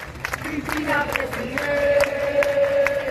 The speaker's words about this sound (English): Once the verdict hit the news yesterday, a crowd gathered in front of the National Congress in Buenos Aires chanting Cristina for president.